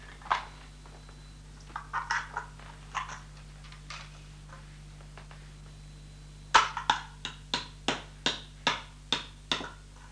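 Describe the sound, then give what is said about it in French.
A hammer taps a nail while building a small house: a few scattered, softer knocks, then a steady run of about nine sharp strikes, each ringing briefly before the next. No one speaks. “Regarde, moi j'ai un marteau pour tenir les clous. Ah, donc, j'ai le clou ici.”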